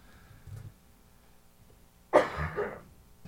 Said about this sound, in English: Excuse me. I'm sorry for coughing at you guys.